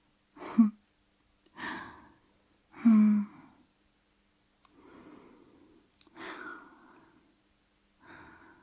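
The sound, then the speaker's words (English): Shallow, rapid breathing: about six quick, airy breaths in a loose, uneven rhythm, some sharper and more voiced, others softer and hissier, with no talking. “Hey, why has your breathing gotten shallow and rapid?”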